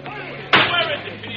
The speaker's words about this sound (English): It was a desperate shriek of brakes and a crash out on the highway.